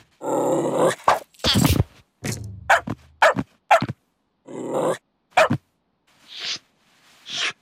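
A dog barks and growls in a run of short, loud, irregular bursts separated by brief pauses, starting with a longer rumbling growl.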